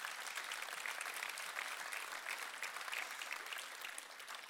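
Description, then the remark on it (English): Steady audience applause, a dense crackle of many hands clapping at an even, fairly loud level throughout, with no voices rising above it. “And if that's you, we're giving you a big round of applause right now.”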